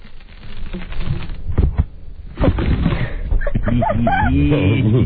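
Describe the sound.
Sticky material peels away from the skin under a person's right armpit with a rough, crackling rip that comes in uneven bursts, followed by voices talking over the continued tearing.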